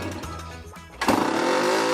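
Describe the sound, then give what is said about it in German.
Small moped engines run steadily outside, then one revs up sharply into a loud, buzzing whine about halfway through, sustained. “ich würde sagen, ich höre draußen schon die Mopeds”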